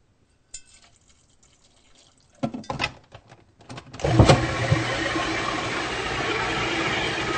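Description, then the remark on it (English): After a few light clicks and handling knocks, water pours steadily into a food processor bowl holding cacao powder and salt, to blend it to a creamy consistency, a continuous splashing rush that lasts several seconds with no one speaking. “I need to add a little water.”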